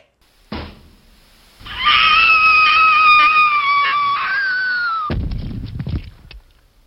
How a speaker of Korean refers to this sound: 머틀의 말이 끝나기 무섭게 탐이 주먹을 휘둘렀다. 여자는 코를 막고 비명을 질렀다.